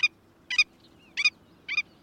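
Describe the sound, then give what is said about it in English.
A willet, a big, boldly marked sandpiper, gives nervous, yapping calls: four loud, nasal bursts, each a quick double note, repeated at a steady pace over a faint low background hum. “The nervous yapping of that big, boldly marked sandpiper called the willet is a characteristic sound of sandy beaches from Canada to Colombia.”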